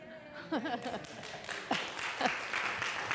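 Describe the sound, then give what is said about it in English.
An audience breaks into steady applause, a dense crackle of many hands clapping that builds and holds, with a few voices and some chuckling mixed in at the start. “That was not a cheap shot to get applause.”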